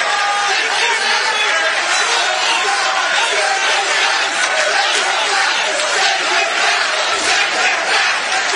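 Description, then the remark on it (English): A large crowd chants the slogan "send her back" in unison, loud and steady throughout, the repeated phrase rising over a dense wash of shouting voices. “And, of course, the crowd chanting, send her back.”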